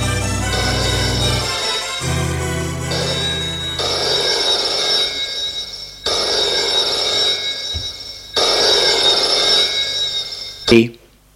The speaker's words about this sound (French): À 10h, le téléphone sonne dans son bureau.